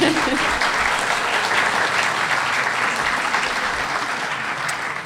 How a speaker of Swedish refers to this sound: Jag tycker vi kan ge dem en applåd.